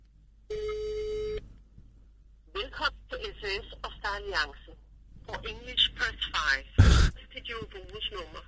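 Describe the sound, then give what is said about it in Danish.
A single steady phone tone, like a ringback signal, sounds for about a second as a call is placed from another person's phone to Star Alliance, followed by people talking over the line with a sharp click near the end. “Okay, så ringer jeg nu.”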